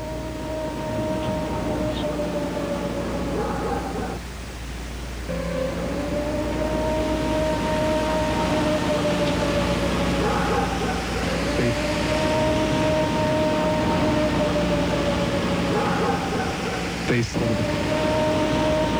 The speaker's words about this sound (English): Yeah, here's the tape of Bigfoot, and it's a field recording made of Bigfoot out in the woods somewhere.